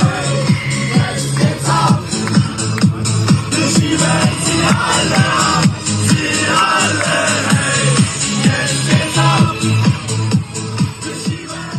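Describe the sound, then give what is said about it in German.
A loud, upbeat AI-generated party song, made by the Junge Alternative (JA), with a steady thumping beat and sung vocals plays continuously at an AfD election party, its dense, bright mix sounding like music blasting over a lively crowd. “Der Song ist von der JA mittels KI erstellt worden”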